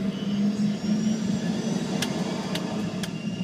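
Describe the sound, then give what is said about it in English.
A steady engine drone fills a commercial airplane cockpit, and several sharp switch clicks come in quick succession near the end as pilots flip controls. No one speaks. “Just like the ones manned by pilots flipping controls in this YouTube video”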